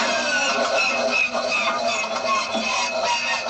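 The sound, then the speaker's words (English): A vintage biplane's engine starter whirs in a steady, loud mechanical drone with a high tonal whine running through it, holding even and unbroken for the full few seconds with no voices. “One of these sounds was a starter on a vintage biplane.”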